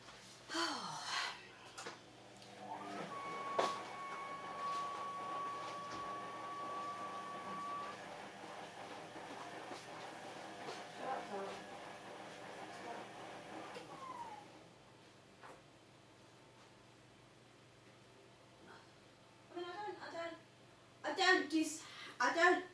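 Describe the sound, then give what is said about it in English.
A washing machine, supposedly just fixed, makes odd noises: a steady mechanical rumble with a thin whining tone partway through, winding down after about fourteen seconds before voices briefly come in near the end. “Bloody washing machine makes funny noises.”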